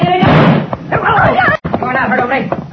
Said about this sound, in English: You're not hurt, only. My bullet only knocked the gun out of your hand.